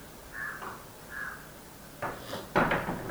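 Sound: door being closed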